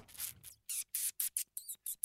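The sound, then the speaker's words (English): A rapid series of about seven short, very high-pitched chirps, some breathy and hissing, others with thin sweeping whistle tones, like tiny bird calls from pocket-size marmoset monkeys. “And they sound like little tiny birds.”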